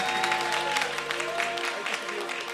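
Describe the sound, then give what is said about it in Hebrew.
An audience claps steadily for performers, a dense wash of many hands with a faint sustained musical tone beneath, continuing for a couple of seconds without anyone speaking. “תנו מחיאות כפיים ל…, בבקשה, תנו להם.”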